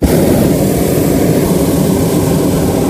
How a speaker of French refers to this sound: Non, l'effet de vent, non, c'est le brûleur, hein, c'est l'air chaud dans le ballon qui nous remonte.